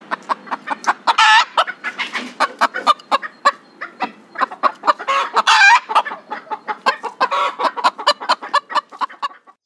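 Farmer Ben's hen clucks in a steady stream of short, rapid clucks, broken by a few louder, drawn-out squawking calls. No voices or other sounds.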